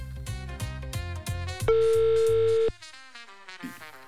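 A single long, steady telephone ringback tone sounds for about a second over upbeat background music, loud, with no talking, as a call is placed to a listener in Malta to offer tickets.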